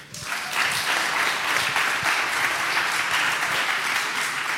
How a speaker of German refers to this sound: Applaus.